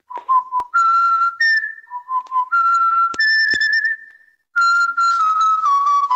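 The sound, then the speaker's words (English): Someone whistles a lively tune, bright sustained notes sliding between pitches with short staccato chirps, a brief pause near the end, then the melody resumes. No one speaks. “And have you heard of the WhatsApp whistling craze?”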